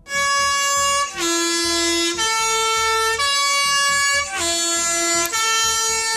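A loud Swiss postbus three-tone horn, on the bus running uphill from Vannes toward the Plateau de Diesse, sounds its melodic sequence of sustained, brassy notes, repeating the stepped tune about twice over six seconds with no talking.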